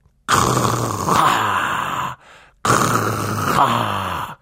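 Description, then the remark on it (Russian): A voice imitates loud snoring: two long, rasping, throaty breaths with a brief pause between them, forceful, with no talking. “Ты сам начнешь храпеть, да как можно громче, вот так.”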